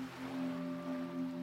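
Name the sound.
gentle ocean waves lapping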